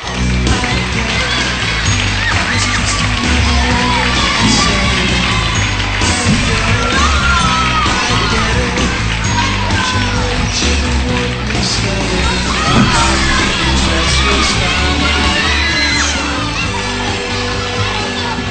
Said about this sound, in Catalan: Un fort aplaudiment, sisplau, mentre es puja a l'escenari.